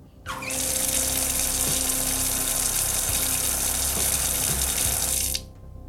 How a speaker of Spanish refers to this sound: No sé, voy a echar otro trago a ver qué me dice el agua.